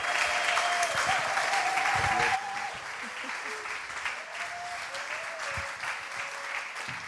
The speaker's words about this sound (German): Das ist wirklich eine Erwähnung wert und einen fetten Applaus.